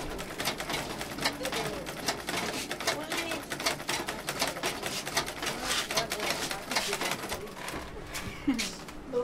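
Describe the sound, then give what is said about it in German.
Treadle sewing machines rattle busily and continuously in a tiny tailor's workshop in the town centre of Maroua, northern Cameroon, where three women work the pedals. Dense mechanical clatter, with indistinct voices and a few bird coos in the background. “Im Schneider-Atelier von Victorine Wangwe in der Innenstadt Maroas im nördlichen Kamerun rattern die Nähmaschinen.”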